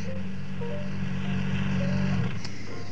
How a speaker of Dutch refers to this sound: Nou, zet je motor uit.